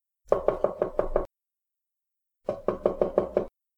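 Gentle knocking on a bedroom door by a servant at about 9:30 in the morning: two quick runs of about six evenly spaced raps, separated by a pause of roughly a second, fairly soft, with no voices.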